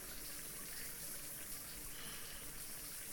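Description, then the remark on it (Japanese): A steady stream of hot shower water pours into a small bucket, a continuous hissing, splashing rush of water that stays even throughout, with no voices. “シャワーのお湯を桶に溜めて。”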